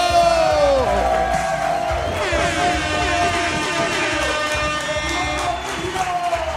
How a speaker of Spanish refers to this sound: Fuerte aplauso para